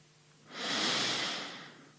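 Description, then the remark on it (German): A single long, deep breath in and out, airy, swelling to a soft rush and then slowly fading out, taken during a guided breathing exercise. No voices, just the steady hiss of air. “Dann holen wir jetzt nochmal tief Luft”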